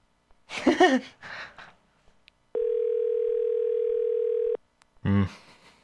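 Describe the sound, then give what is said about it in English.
Brief talking gives way to a single steady electronic phone ringing tone lasting about two seconds, clear, followed by another short burst of voice; an outgoing phone call rings before reaching voicemail. “Should we leave him a voicemail?”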